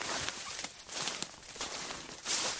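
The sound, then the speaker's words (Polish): Crunching footsteps on snow at an unhurried walking pace, each step a soft, gritty compression, steady, with no one speaking, as people walk along the upper part of the Kończak canal. “Co prawda teraz go nie widzimy, bo nam zniknął w takiej malutkiej dolince, ale generalnie idziemy zgodnie z jego biegiem.”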